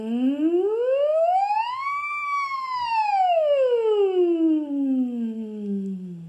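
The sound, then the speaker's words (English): A single voice glides smoothly up in pitch for about two seconds, then slides slowly back down, a slow siren vocal exercise sung alone without any talking. “And a simple exercise like a siren.”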